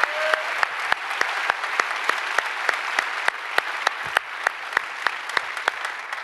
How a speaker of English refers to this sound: By applause, would you just welcome each other like you love each other? Would you just do that? Huge round of applause. Welcome.